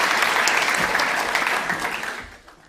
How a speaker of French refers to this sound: Est-ce qu'on peut encore applaudir une dernière fois nos équipiers et vous inviter à rejoindre tranquillement la scène?